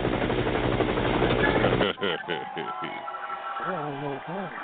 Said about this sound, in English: Yo, yo, let's get in the chopper right now. Chopper real quick.